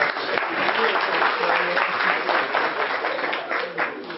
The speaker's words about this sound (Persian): خب خیلی ممنون، مرسی. بفرمایید دو تا تشویقش میکنم.